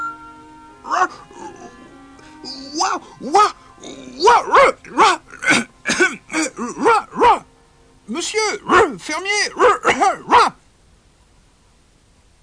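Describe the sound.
A person imitates a dog, voicing Pinocchio barking as best he can in a story, letting out a long run of quick, loud barking yelps in two bursts with a short pause between, and a few spoken words slip in.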